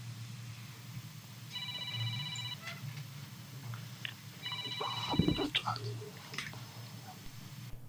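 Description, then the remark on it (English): A telephone rings twice with an incoming call to the Eagle FM radio call-in segment, each ring a buzzy, high-pitched burst lasting about a second with a pause between, over a steady low hum and a few scattered clicks. “So there we have another call.”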